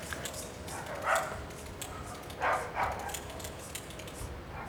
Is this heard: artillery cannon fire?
no